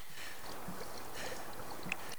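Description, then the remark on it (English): Gently running water splashes and trickles steadily from a small pond water feature that continually fills and empties, with a faint single knock near the end. No voices. “A small feature in the pond continually fills and empties water.”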